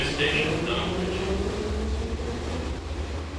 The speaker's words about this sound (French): Est-ce que ça vous rappelle éventuellement vos années à Kiev ? Oui, tout à fait. Le fait d'entendre le bruit du métro à Kiev, ça me projette directement dans la ville